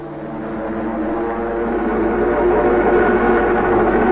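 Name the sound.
aircraft engines droning overhead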